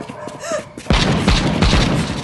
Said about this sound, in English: Behind her, she heard heavy gunfire. She said 30 or 40 rounds.